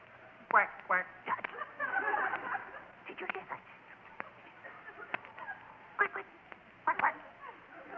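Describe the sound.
A person imitates a duck to call ducks in, with a series of nasal, uneven quacks, fairly loud, with some speech-like vocal sounds mixed in and a faint low hum underneath.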